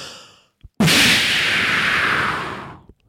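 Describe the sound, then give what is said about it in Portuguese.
A smoke bomb firecracker: a small click, then an abrupt loud burst that becomes a steady, bright fizzing hiss for about two seconds before tapering off, with no voices. “Bombinha de fumo.”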